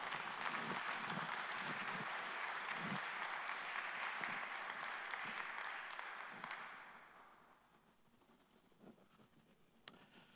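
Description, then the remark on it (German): Audience applause for a man coming up to the front to speak: a dense, steady wash of many hands clapping for about six seconds, then fading quickly into near silence with a few faint stray claps and clicks. “Und das hat den Beifall verdient, weil das ist mutig, hier hochzukommen.”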